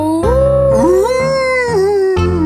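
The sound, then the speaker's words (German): A long, wavering howl rising and falling in pitch, sustained for a couple of seconds, likely a voice imitating a wolf over a steady musical backing. “Wie macht der Wolf? Der Wolf, ja, der macht...”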